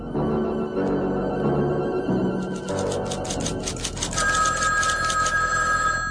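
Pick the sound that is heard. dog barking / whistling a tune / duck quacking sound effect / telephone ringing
telephone ringing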